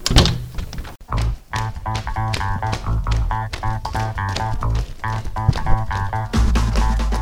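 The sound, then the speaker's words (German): Repeated knocking on a window, a quick run of solid thuds with a few short pauses, set over a steady tonal musical backdrop; no one speaks. “Und dann, schon eine Minute später, klopft es am Fenster.”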